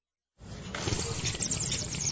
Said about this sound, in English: Why such a loud slurp, my friend?